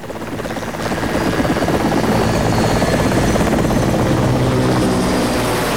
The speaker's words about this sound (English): A military helicopter hovers close to the ground and Bill leaps out.